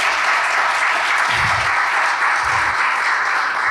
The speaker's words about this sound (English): In 2021, in June of 2021, we moved into a facility. Come on, let's clap it up for the Lord.